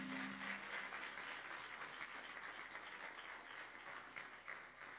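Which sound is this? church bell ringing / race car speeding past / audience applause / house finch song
audience applause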